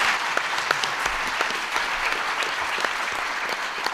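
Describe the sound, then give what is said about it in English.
A room full of people applauds the panelists at a forum on the Affordable Care Act, a dense, sustained wash of applause with scattered sharper hand claps standing out, continuing at an even level without any voices. “Please join me with a round of applause for them.”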